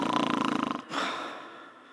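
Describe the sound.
A voice imitates a loud snore up close: a rattling, fluttering inhale lasting almost a second, followed by a softer, breathy exhale that trails off.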